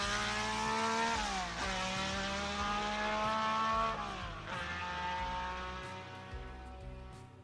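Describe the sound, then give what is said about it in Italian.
A high-revving 12-cylinder Ferrari Formula 1 engine, mounted in a small, aircraft-like car, roars loudly, climbing through gears with rising harmonic whine and sharp shift drops, with no voices. “Il suono ruggente di quel 12 cilindri montato su quel piccolo veicolo simile ad un aereo, che ha cambiato per sempre la storia della Ferrari, il team che ancora oggi, nonostante tutto, rappresenta in tutto il mondo l'essenza stessa della Formula 1.”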